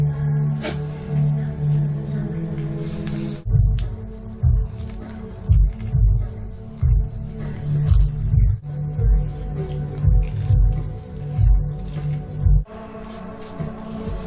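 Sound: eating breakfast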